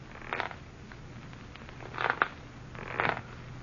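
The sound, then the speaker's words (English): A rocking chair creaks three times, slow wooden creaks spaced unevenly over a few seconds, each a short raspy groan, heard over a low steady hum with no voices. “On the fifth night of our wait, we heard the rocking chair creaking, creaking, creaking.”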